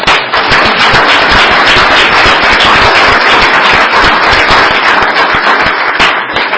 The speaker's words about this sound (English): Let's bring them back in for a second and give them a round of applause.